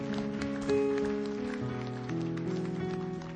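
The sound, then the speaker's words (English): A crowd gives a clap offering, clapping steadily in a dense, crackling patter while sustained organ-like chords play underneath, shifting pitch a few times over several seconds. “Can you give him a great clap offering?”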